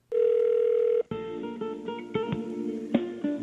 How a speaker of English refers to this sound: Let's try to get them on the phone and see what happens. He's dialing it.